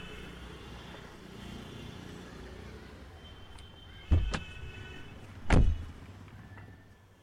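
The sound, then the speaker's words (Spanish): A taxi door opens with a sharp latch click as a football fan gets in during the last minute of a match, followed a moment later by a solid thump as it shuts, over a steady low rumble of the idling car. “Cuando sube un hincha al coche en el último minuto del partido, juegas tú también.”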